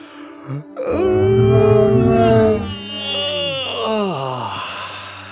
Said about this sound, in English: Oh, I can feel a yawn coming. A big lion yawn. Do you feel a yawn too? Let's yawn together.